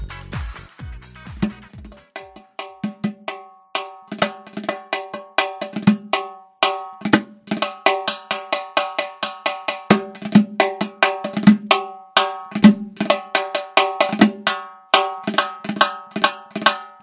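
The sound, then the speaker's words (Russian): A drum beaten to convey the sadness of a melancholic, lovesick Pierrot, in a steady, fairly quick rhythm for the whole stretch, each hit carrying a bright, ringing metallic tone. The strikes are moderately loud, with no voices. “Подожди, не убирай барабан, потому что у нас сейчас будет третье задание.”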